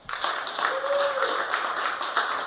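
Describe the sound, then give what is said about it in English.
An audience claps steadily for a couple of seconds in a poll on whether the Blue Jays will be in the playoffs, a dense, even patter of many hands with a few sharper, louder claps standing out. A brief faint tone rises through the middle. “Can I get a round of applause from people who think the Blue Jays will be in the playoffs this year?”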